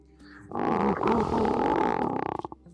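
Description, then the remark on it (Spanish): A lion lets out a mighty roar that swells to a loud, sustained bellow for nearly two seconds, then breaks into a quick series of rhythmic grunting pulses before fading. “El león hizo una pausa, miró fijamente al tío con sus ojos redondos de piedra y dejó escapar su poderoso rugido.”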